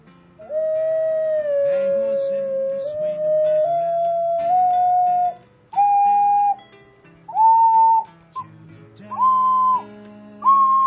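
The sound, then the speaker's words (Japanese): A wind instrument plays a rising do-re-mi-fa-so-la-ti-do scale of sustained, breathy notes, each held briefly with short gaps between, climbing steadily in pitch over about ten seconds. “はい、ちょっと違うかったんですがね、指使い見てるとでも、今指使い違うなと思ったんですが、ちゃんとドレミファソラシドになってるのは気合で吹けば音は出るという楽器なんです。”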